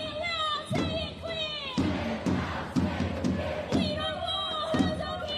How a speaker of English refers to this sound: They say the crowd stood peacefully and chanted in between speeches from people like former Australian of the Year Grace Tame, Jewish academic Anthony Lowenstein, and Amnesty International Australia spokesman Mohammed Dua.